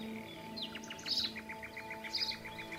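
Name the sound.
birds chirping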